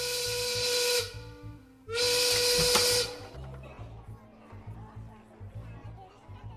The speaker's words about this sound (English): Soon, a bell whistled and the elves came pouring outside.